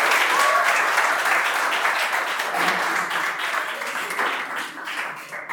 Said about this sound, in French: Et je veux qu'on les applaudisse très fort, ils viennent très loin.